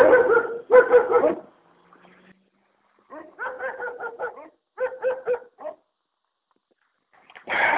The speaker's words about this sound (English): And now there's the dog.